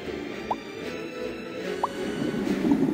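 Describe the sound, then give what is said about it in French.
Wet, bubbly pops of large bubbles burst on a water surface over a low, churning liquid rumble, with two distinct plopping bursts standing out among softer gurgles, moderately quiet. “Bientôt, il ne reste d'eux que de grosses bulles qui éclatent à la surface de l'eau.”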